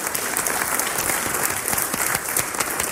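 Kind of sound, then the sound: crowd, audience applause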